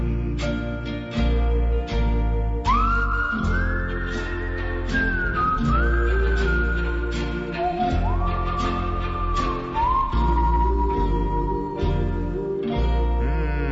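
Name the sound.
whistled song melody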